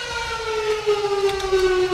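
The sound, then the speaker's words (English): A loud siren wails steadily, its tone sliding slowly downward with strong harmonics, filling the whole moment with no voices heard. “I need to wait for the siren to be done.”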